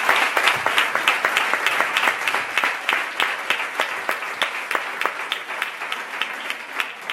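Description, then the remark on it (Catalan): Sustained applause from an audience at a night-time political event in Sitges, for a group of men and women of Iniciativa per Catalunya Verds i Esquerra Unida i Alternativa joining Sitges en Positiu. A dense wash of many hands claps at a steady loud level for several seconds, with some individual claps standing out rhythmically. “com a representant d'Iniciativa per Catalunya Verds i Esquerra Unida i Alternativa de Sitges, un grup d'homes i de dones que ha decidit sumar-se a Sitges en Positiu i pels quals demano un gran aplaudiment perquè m'han acompanyat aquesta nit.”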